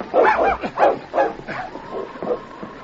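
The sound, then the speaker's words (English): A dog barks in a quick run of loud yelps that trail off into softer whimpering whines, with no voices present, as the dogs Rags and King drag a boy across the room toward the door. “Slowly, the boy's figure slid to the floor, and together, Rags and King dragged him across the room toward the door.”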